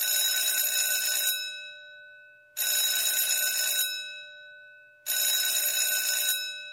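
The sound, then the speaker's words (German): An electric theatre bell rings three times as the audience sits waiting for the performance to begin, each a loud, bright metallic trill lasting over a second, separated by short silent pauses, with a brief ringing decay after each burst. “Es hat dreimal geklingelt.”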